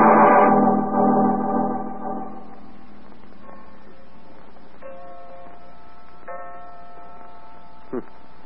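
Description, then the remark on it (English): A clock ticks steadily while striking nine o'clock with slow, resonant chimes, each ringing tone lingering and fading before the next, with no talking. “Nine o'clock.”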